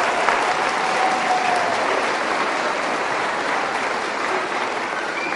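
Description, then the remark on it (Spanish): Steady audience applause for women fills the whole stretch, a dense, even wash of clapping hands that holds at a fairly loud level from start to finish, with no voices standing out. “Hay que darle un aplauso a las mujeres porque tienen razón.”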